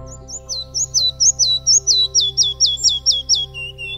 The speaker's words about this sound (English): This is the little flycatcher, which looks like a flame because of the orange spot on its chest. It lives in mature stands, feeds on insects. Characteristic features are the frequent lifting of the tail and flapping of the wings.